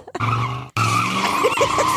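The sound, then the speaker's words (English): Two loud tire squeals, one right after the other: cars skid with a harsh, sustained screech. The first is short and cuts off abruptly, and the second runs longer, wavering in pitch. “Two cars.”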